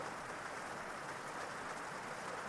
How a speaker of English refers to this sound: Welcome to Get Back to Sleep, Sound of Rain, a guided sleep meditation brought to you by Tracks to Relax.